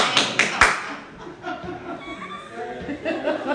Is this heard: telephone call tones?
no